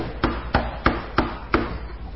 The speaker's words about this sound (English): And about 2 o'clock in the morning, they heard a knock on the door.